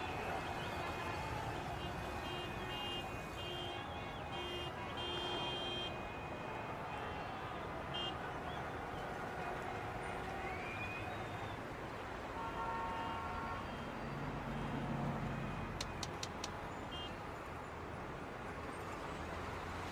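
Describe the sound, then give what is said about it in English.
Congested street traffic with car horns honking repeatedly, some sustained and some short toots, over a steady rumble of engines and murmuring voices in the background. “Why the hell would I want to get out in this chaos? So do me a favor, will you? If the traffic starts moving”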